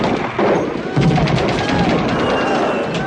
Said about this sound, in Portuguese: A polícia foi chamada, houve troca de tiros.